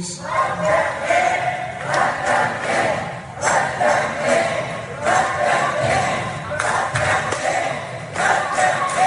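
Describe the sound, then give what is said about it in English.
A crowd of progressive protesters at the DNC summer meeting in California yells and shouts together in a loud, continuous roar, with overlapping voices rising in repeated surges and scattered thumps beneath the noise. “You hear the yelling.”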